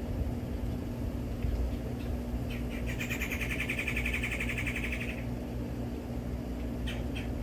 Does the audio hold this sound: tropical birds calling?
yes